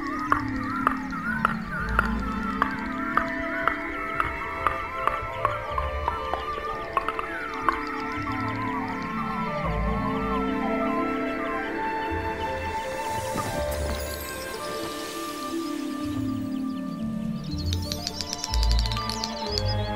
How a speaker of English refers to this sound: Somewhere in the moor, there are predefined meeting points. Sometimes as many as 30 males vie to outdo the others and impress the females with their singing prowess and show of feathers.